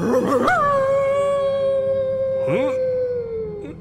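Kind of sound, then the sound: sound effect, wolf howl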